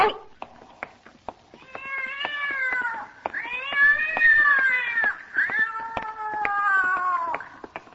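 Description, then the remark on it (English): A big cat on packing boxes yowls in three long, wavering caterwauls, each rising and falling in pitch, fairly loud, with brief knocks and clicks in the pauses between cries. “There it is upon those packing boxes. Wait. Maybe this time I can catch it. Great Scott, what a big cat.”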